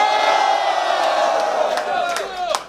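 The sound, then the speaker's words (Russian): A large crowd in Saint Petersburg cheers and roars continuously at a rap battle, a dense wash of shouting and whooping voices with a few sharp whistles and yells rising above the din toward the end. “Питер, сделайте максимум шума!”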